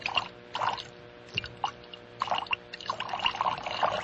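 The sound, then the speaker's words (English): A person urinates: liquid trickles and splashes in uneven bursts, a steady pouring stream that swells and fades several times, with no talking. “I really have to pee.”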